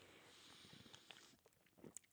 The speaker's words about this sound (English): Take a sip of this fine Tecate to my friend Joe Klein.